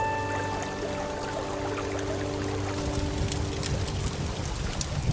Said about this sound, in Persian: آخیش، بالاخره شستن لباسمون تموم شد.